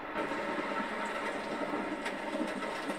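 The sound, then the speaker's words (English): Heavy rain pours down in a dense, unbroken hiss that holds at an even, fairly loud level for the whole stretch, with faint scattered patters and no voices. “Wow, it's really coming down there. Yeah, it's really coming down out there.”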